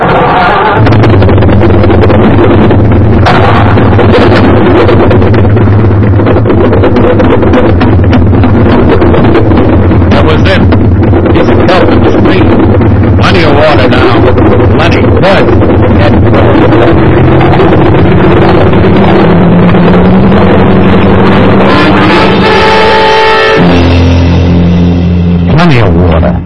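Two big boat engines run at once in a loud, steady roar with deep throbbing tones and some wind buffeting. Near the end the engine note shifts and changes pitch.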